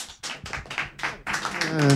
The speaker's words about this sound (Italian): Vi ringraziamo per questo applauso davvero tiepido.